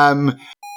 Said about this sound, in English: Would it be like a fax sound? It sounds like a fax or like an old dial-up modem kind of sound.